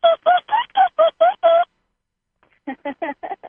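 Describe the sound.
A person imitates dolphin sounds with a quick series of seven high, chirpy squeaks, pauses briefly, then adds five more rapid, slightly lower clicky chirps.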